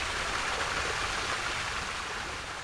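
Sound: spring water flowing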